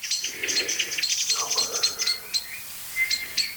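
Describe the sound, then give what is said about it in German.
Agitated alarm calls from several bird species overlap in a busy, high-pitched chorus of sharp chips and short repeated notes, loud and continuous with brief pauses, no voices. “Was ziemlich eindeutig zu hören ist, okay, es sind andere Vögel involviert. Die Aufregung ist heftiger, stärker.”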